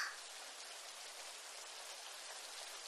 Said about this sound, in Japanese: こんなとこ立ってたら濡れちゃいますよね。どっか雨宿りできるとこは。